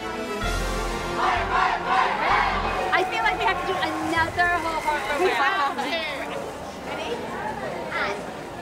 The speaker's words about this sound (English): The Wales squad practice a cheer.